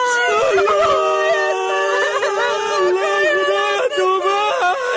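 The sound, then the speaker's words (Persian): A child wails loudly and continuously, a high, quavering cry that rises and falls in pitch with barely a pause, filling the whole stretch. “زرخونه بچه چرا گریاد میکنی؟”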